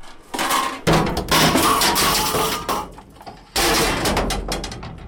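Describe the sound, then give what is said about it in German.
People tip scrap iron into a skip at the municipal works yard in Aarau, Switzerland: loud, harsh clanging and rattling crashes come in several heavy bursts, with clattering that trails off between them. “Es klopft und schädert, wenn die Leute ihr Alteisen in die Mulde schiessen.”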